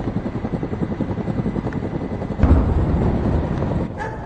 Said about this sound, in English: Here we are again. The chopper's very close this time. He's up there terrorizing people, shooting from right behind us.